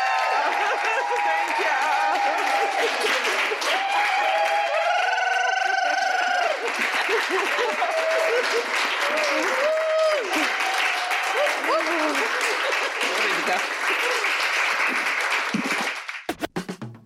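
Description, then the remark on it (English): Sustained audience applause for the guests of an evening conversation event, with steady clapping throughout, mixed with cheers and a few whoops rising above the crowd, lasting about sixteen seconds before cutting off abruptly. “Please give another round of applause for them.”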